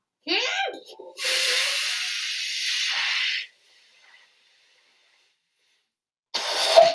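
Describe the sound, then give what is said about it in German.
Air is let out of a toy balloon in a studio with a brief squeaky squeal, then a steady, loud hiss lasting a couple of seconds. After a pause, another short burst of hissing follows. “Und deswegen blasen wir nicht Luftballons hier im Studio auf.”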